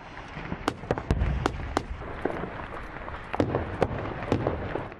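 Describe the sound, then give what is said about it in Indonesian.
Rapid bursts of gunfire crack out irregularly while deep, booming heavy artillery explosions rumble beneath, a sustained and chaotic night barrage as US-backed SDF forces attack the last ISIS-held area in northeastern Syria, with no voices. “Bagus diterangi api dan irama tembakan bersama dentuman artileri berat.”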